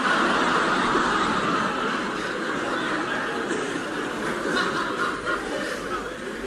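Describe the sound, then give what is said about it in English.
Peter Sellers, on The Goon Show, imitates a car engine with his voice: a steady, rough, sputtering drone that runs unbroken for several seconds, loud, with no other talk. “Folks, that was Peter Sellers doing an impression of the next car he tends to buy.”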